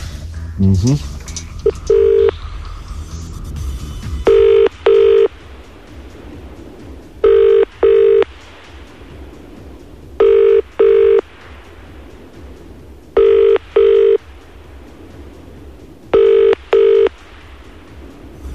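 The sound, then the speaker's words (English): A phone's ringing tone on an outgoing call to a contact from a phone book, a short burst of dialing beeps followed by five evenly spaced double rings, clear and steady, heard through the line against a low background hum. “Let's ring him. Pass the phone over.”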